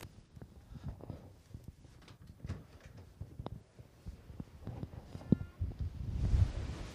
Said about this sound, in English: Yeah, it's pretty windy out here. Oh my goodness. And we sit up on a little bluff, so yeah, that's windy.